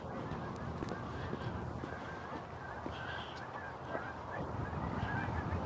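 A flock of geese honks continuously, their overlapping calls forming a steady, noisy chorus over a broad background rumble with no talking.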